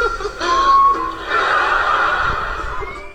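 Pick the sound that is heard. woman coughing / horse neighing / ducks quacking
horse neighing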